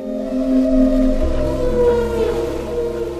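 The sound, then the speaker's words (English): Humpback whale song recorded underwater with a hydrophone at a listening station off the coast of Bermuda: long, sustained tonal moans with layered harmonics that slowly bend in pitch, over a low rumbling hum of deep water. No voices are present. “These eerie, beautiful sounds. They weren't submarines. They were humpback whales.”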